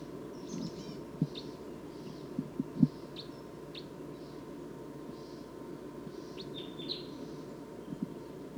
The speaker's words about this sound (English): Stop. So recording that. Wild bird's approaching a little bit closer now. Stop. So recording wild bird's calling loud now, as well as the decoys.